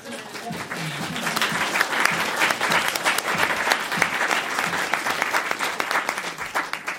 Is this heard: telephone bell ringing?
no